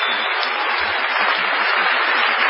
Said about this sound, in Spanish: Vamos a saludar inmediatamente con una cerrada ovación